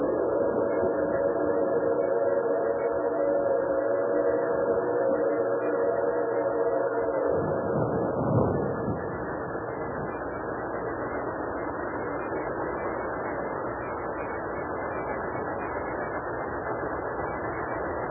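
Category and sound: vehicle, train approaching and stopping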